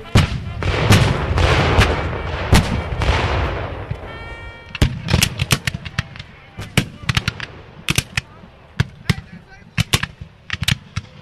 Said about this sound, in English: I think the cannon. When the cannons start going off, it'll rattle your teeth.